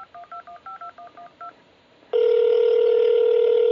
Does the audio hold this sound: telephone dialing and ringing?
yes